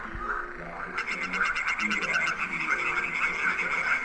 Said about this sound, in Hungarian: Megnézzük a kecskebékát.